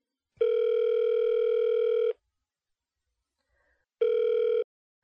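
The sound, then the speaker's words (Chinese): A phone's ringback tone sounds while a call is placed to the caller's husband: a steady electronic buzz, one long burst then a brief one after a pause, clear with no voices. “现在我要给我老公打电话了哟。”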